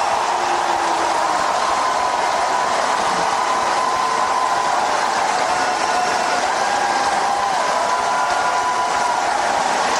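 A large audience at a political speech booing loudly and continuously for about ten seconds, a dense, steady roar of many voices with a sustained low 'boo' tone running through it.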